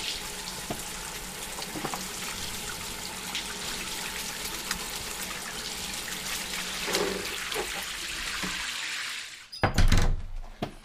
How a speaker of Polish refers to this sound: Idź do łazienki umyć ręce.